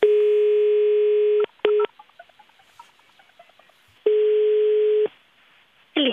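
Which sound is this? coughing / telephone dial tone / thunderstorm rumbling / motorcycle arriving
telephone dial tone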